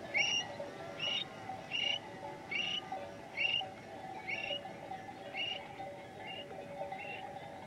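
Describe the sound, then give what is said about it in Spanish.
A Eurasian stone-curlew gives a series of shrill whistling calls, repeated about once a second in a steady rhythm, over a constant low outdoor rumble, at dawn in the Zacatena dehesas where dry farmland meets wetland. “Silba un alcaraván y una vaquera arrea su ganado.”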